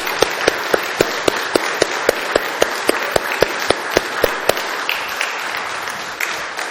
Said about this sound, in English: People are often a little bit reluctant to applaud in church, and quite frankly, that was a half-hearted attempt. I think we ought to do it again. Well done.